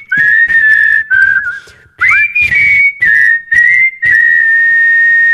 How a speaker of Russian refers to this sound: ты умеешь свистеть одним способом, только губами. Да, умею только губами. Так и не научилась, как-то пальцы... Вот так. Не умею.